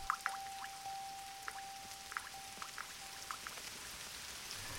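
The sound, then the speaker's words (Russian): Rain dripping onto birch leaves, with irregular soft taps and patters scattered over a steady, quiet hiss of rainfall, drops gathering into trickles and filling puddles. No voices, just the gentle drops. “По щечкам, по березовым листочкам капельки в струйки собираются, лужицы водицей наполняются.”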